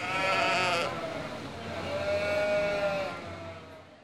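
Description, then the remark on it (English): Sheep bleat loudly, one long wavering call followed after a short pause by another, with no talking. “I have a picture of the ideal sheep in my head, and I'm trying to get each sheep to look that way”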